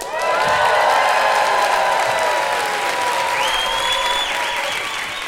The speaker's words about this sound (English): So please make sure to cheer very loudly for Wendy Zukerman and Joel Werner.